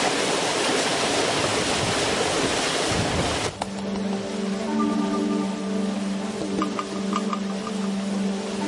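Loud water of the Manzanas River rushing past a watermill in a steady roar, then an abrupt cut to a softer wash of water beneath a low, steady humming drone. No one speaks.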